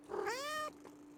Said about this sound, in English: Sweetie, is that you? Oh, who turned you into a cat?